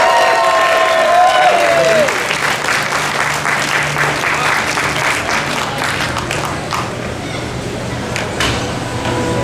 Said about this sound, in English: And if you can give a full round of applause for our ribbon winners.